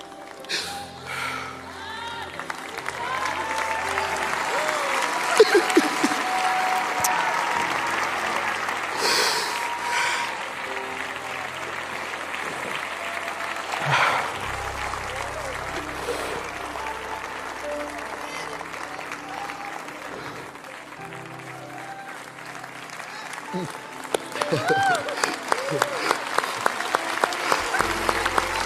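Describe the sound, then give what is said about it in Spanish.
A church audience applauds steadily for the whole stretch, giving glory to God, a dense wash of clapping with voices calling out over it; near the end the claps fall into a regular, rhythmic beat. “Señor, dele gloria al Señor, dele gloria al Señor, dele gloria, aplausos, dele gloria al Señor Jesucristo que nos libertó”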